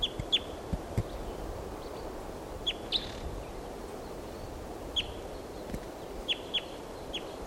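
wild bird calling

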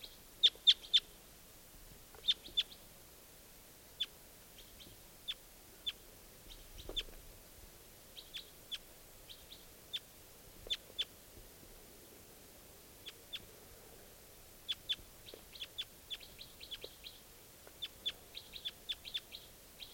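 wild bird calling

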